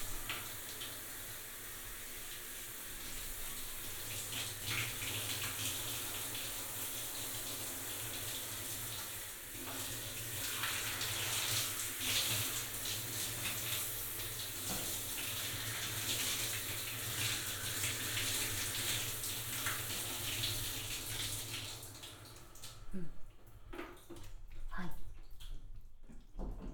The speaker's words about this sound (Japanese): 流していきます。動かないでください。泡が残ってはいけません。